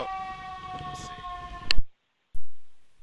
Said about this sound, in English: Oh, it turned the siren off, thank goodness.